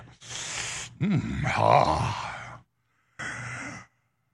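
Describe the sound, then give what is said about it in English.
A voice imitates a ship's foghorn with breathy, groaning blasts: a long low moan with a rising wobble, then a short pause and one shorter, hissy blast to finish. “And now, hear the foghorn turning the ship back.”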